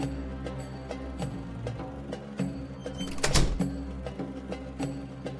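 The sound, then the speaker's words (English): Dice are thrown and clatter down into a hole, a scattering of sharp clicks building to a brief louder rattle, over a steady low background hum with no talking. “Time to throw the dice in the hole.”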